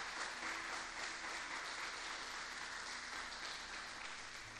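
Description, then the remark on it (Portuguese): Sustained audience applause at a church service, an audience applauding God, a dense steady wash of many hands clapping at an even level throughout, with no voices standing out above it. “Aplauda ele, porque ele é bom.”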